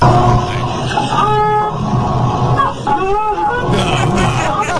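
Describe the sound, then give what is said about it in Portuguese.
A woman's washing machine runs loudly, a steady, dense mechanical roar layered with whining, wavering tones that rise and fall in pitch, continuous for the whole stretch. “Isso é a máquina de lavar dela.”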